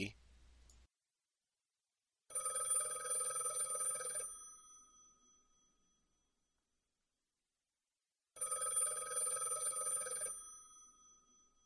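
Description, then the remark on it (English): A telephone rings twice with a bright, metallic bell, each ring lasting about two seconds and trailing off, separated by a long silent pause. It is fairly loud, with no talking. “The phone won't stop ringing.”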